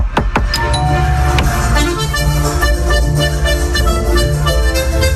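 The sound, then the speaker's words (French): A few sharp knocks on the door of an accordionist's home land in the first seconds, over steady, sustained accordion chords that he keeps playing loudly throughout, heard from afar. “Je frappe à la porte.”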